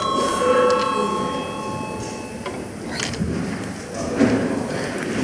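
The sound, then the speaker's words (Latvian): A parliament chamber bell, called for as debate closes, rings before a vote on the sixth proposal, with steady, sustained high tones for about two and a half seconds, then stops, leaving a low murmur of movement and faint voices in the chamber. “Debates slēdzu. Lūdzu zvanu.”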